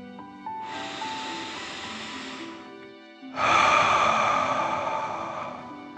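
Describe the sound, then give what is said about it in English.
A slow, deep breath during a guided breathing exercise: a long airy inhale lasting about two seconds, a brief pause, then a louder, fuller exhale, with soft sustained music tones playing underneath. “Again, deep breath in and out.”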